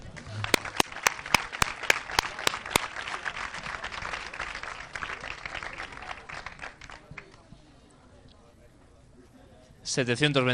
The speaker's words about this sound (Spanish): Y vamos a por los 728, por favor, un aplauso.